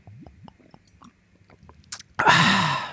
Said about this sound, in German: Ich werde ganz, ganz doll immer ins Mikro atmen, dann hört er mich andauernd am Trinken, weil ich mache euch das kurz vor, dann könnt ihr das auch zuordnen, warte.